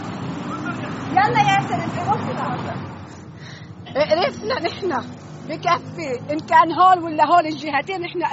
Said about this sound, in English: This is one of the main highways leading from the south, and it's just choked with vehicles. Cars, trucks, some people on motorcycles. Every car is either packed with people or packed with people and stuffed to the roof with bags.